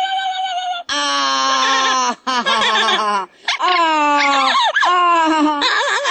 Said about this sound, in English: One of the oldest birds at Jungle Island, a cockatoo named Pinky, is surely everyone's favorite.